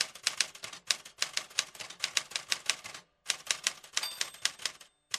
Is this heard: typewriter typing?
yes